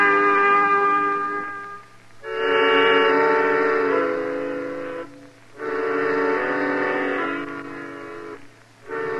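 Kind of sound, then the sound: vehicle, moving train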